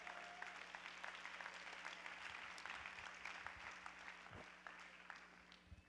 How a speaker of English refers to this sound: Let's everybody clap our hands to the Lord.